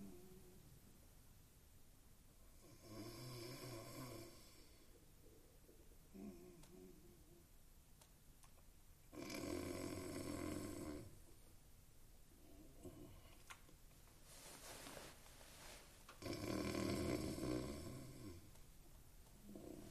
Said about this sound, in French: fait de zoom microphonique sur les ronflements de l'homme. Passage continu d'un plan lointain à un plan serré.